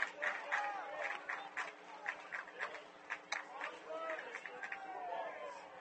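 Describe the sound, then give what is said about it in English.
A Minster baseball crowd whoops and cheers in a steady, lively roar, with rising shouts and scattered claps popping out over the continuous noise of many voices, with the bases loaded in the bottom of the fifth and Minster down 5-4 against Fort Loramie. “We're in the bottom of the fifth, and the Minster crowd is whooping it up.”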